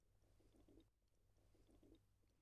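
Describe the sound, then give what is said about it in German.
A boat keel grinds onto a sandy beach, digging a deep furrow, in two gritty, crunching scrapes about a second apart, fairly loud over a steady low rumble, with no voices. “Knirsch! Der Bootskiel krachte auf das Ufer und grub eine tiefe Furche in den Strand.”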